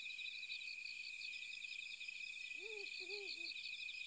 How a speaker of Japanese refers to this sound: 鳴き声、フクロウ？